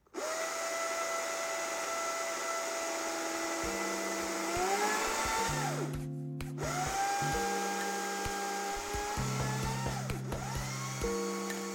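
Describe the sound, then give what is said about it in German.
A Stihl battery-powered chainsaw runs loud with a steady electric whine, its motor revving up and dropping back several times over the run. No one speaks. “kann ich dir auf jeden Fall die Akku-Variante empfehlen. Ich habe sie von Stihl, aber Husqvarna und andere namhafte Hersteller werden bestimmt auch vergleichbare Qualitäten haben.”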